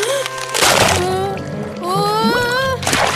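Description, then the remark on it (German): Ice cracks and splashes into water in two loud, noisy bursts, one early and one at the end, over steady sustained tones, breaking right where Findus had just been standing. “Denn jetzt bricht das Eis genau dort, wo Findus eben noch gestanden hat.”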